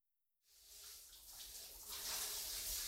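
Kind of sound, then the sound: household object, shower water running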